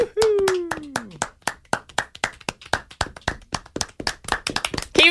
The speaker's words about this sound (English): Just woo! Yeah, okay. That's enough. This is the applause that's going to be coming at you when you're on tour, on stage, in front of the people.